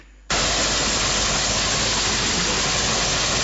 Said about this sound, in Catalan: Doncs vinga, estem al tren, Paco. Doncs, quin soroll.